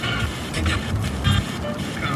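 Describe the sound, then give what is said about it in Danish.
A car drives steadily for hours along an American highway in snow, with a constant low road rumble and a broad hiss of tyres and wind inside the car, moderately loud, and the constant sound of cold snow on the windshield. “Så timevis i bilen, uden for streaming og mobildækning, til den konstante lyd af kold sne på ruden.”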